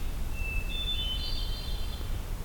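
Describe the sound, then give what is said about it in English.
A hermit thrush sings a thin, flute-like phrase in a partly logged, thinned-out forest with many dead branches: a sustained clear note followed by higher, shimmering tones, over a steady low outdoor rumble. “And there's this hermit thrush singing.”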